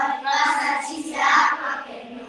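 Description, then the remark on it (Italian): Sustained applause from a crowd for a class of students, a dense wash of clapping that swells twice over about two seconds without pausing, fairly loud and with no one speaking over it. “è il nostro applauso, perché siete stati bravissimi, bravissime.”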